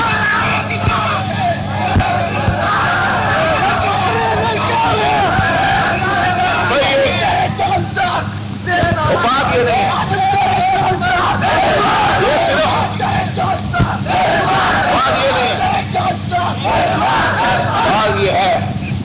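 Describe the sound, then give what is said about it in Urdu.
A large crowd chants and shouts in unison, loud and sustained for the whole stretch, with a dense wall of voices rising and falling in rhythm as at a rally. “ہم نعرے شارے لگانے والے نہیں ہیں، ہم تو کام کرنے والے ہیں، نوکر ہیں، نوکر خادم ہیں آقا کی ختم نبوت کے.”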